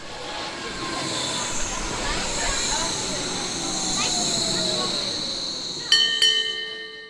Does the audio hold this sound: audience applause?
no